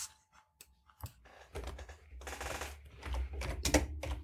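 Rapid, uneven clacking of computer keys as someone types a Google search, fairly loud, with bursts of keystrokes in a steady flurry over a low background rumble. No one speaks.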